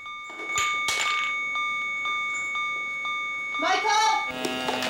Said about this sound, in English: Richie loses consciousness and the phone and chess piece fall to the floor.